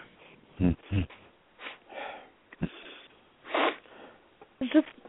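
Heavy, agitated, angry breathing from a caller to the radio call-in show Turn the Page over a thin telephone line: irregular huffs, sniffs and snorting exhales, with short pauses between breaths and no words spoken.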